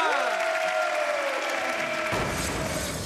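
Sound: crowd cheering and applauding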